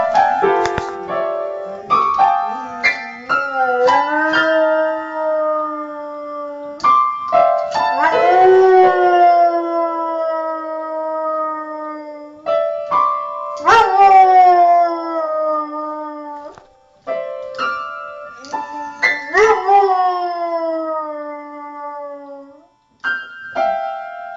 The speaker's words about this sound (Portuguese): É um vídeo tirado da internet, é um cachorro. A gente vai passar o áudio aqui na rádio. Uhum. É um cachorro tocando piano e uivando.